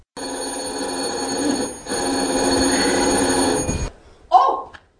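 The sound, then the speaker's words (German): A telephone bell rings loudly in two long, steady bursts separated by a brief pause, with a rattling metallic tone; a short voice sound follows after the ringing stops. “Da klingelt's.”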